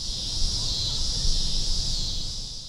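A loud, unbroken electric drone of cicadas holds one high, buzzing pitch for the whole stretch, with a faint low rumble underneath and no voices.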